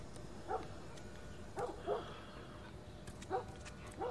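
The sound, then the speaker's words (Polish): A dog barks, five or so short, sharp barks in loose pairs over a steady background hiss, with no one speaking. “Słuchajcie, pies przestał szczekać.”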